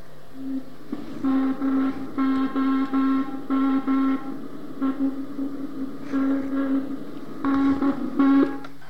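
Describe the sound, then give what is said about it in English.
Slowed-down, Doppler-shifted Morse code signal from a second-generation Russian spy satellite: a low, buzzy, harmonic-rich tone keyed on and off in a run of short and longer bursts, with a brief pause midway and no voices. “But then we realised, three revs later, it got a Doppler shift on it. And this is it slowed down.”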